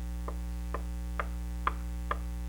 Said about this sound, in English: That knock.